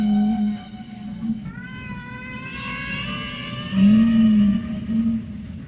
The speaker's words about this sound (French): La baleine. Imaginez-la seule au fond de cet océan noir. Elle appelle, mais personne ne répond.